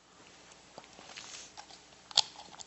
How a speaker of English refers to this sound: Excuse me, I gotta get one quick sip of water as I adjust, if I can.